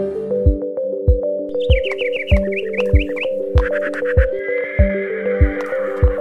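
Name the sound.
wild horse neighing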